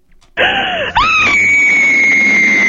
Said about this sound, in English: We have a running gag that whenever I say IRS, the screaming lady appears, and she was sipping her coffee, and I thought I'd catch her, but no, she did it left-handed.